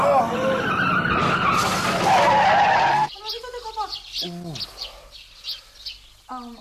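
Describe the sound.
A car brakes hard as the driver shuts the throttle, with a loud, sustained tire skid and screech lasting about three seconds, then cuts off; a voice speaks briefly afterward.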